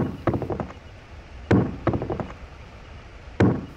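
Woodcutters cut down some of the biggest trees with axes: sharp, loud wooden thwacks arrive in irregular bursts, some strikes followed by quick rattling echoes, with no voices.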